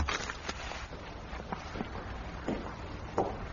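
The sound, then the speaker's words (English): Muffled footsteps on the other side of a door, a slow uneven series of soft thuds, fairly faint against a low background hum, with no one talking. “Sir, footsteps.”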